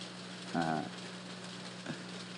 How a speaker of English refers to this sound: So I hope you can hear the pitter-patter of the rain as it drops from the sky.